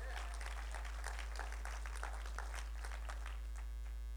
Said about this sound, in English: Praise the Lord. Give him a big clap if you're going to clap.